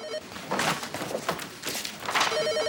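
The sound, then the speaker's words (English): A telephone rings at a nurse's station with a steady electronic warble, briefly at the start and again near the end, while shuffling footsteps and rustling movement fill the space in between. “Dan comes to the nurse's station in Keller and ignores the ringing”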